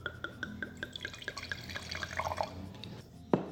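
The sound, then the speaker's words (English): Wine glugs steadily from a bottle into a glass in a quick, regular series of bubbling pulses, followed by a single sharp clink near the end. “Can I pour it?”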